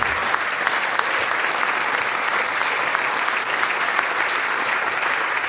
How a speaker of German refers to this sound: Und natürlich nicht zuletzt der Gruppe Kultur Hengsberg, die das Sänger- und Musikantentreffen heuer schon zum 16. Mal organisiert hat. Informationen, ja, kriegt auch einen Applaus.